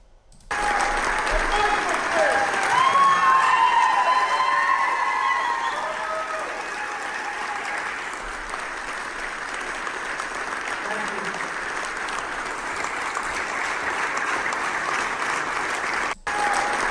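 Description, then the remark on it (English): A large standing crowd applauds and cheers nonstop as Mike Flynn Jr. is brought up on stage at a movie showing, a dense wash of clapping with shouts and whistles rising in the first few seconds, then settling into steady, loud ovation. “There's a good reason why everybody is standing on their feet and cheering when Mike Jr. is brought up on stage.”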